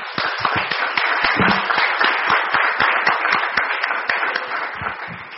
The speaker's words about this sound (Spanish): El aplauso es para ustedes. Gracias.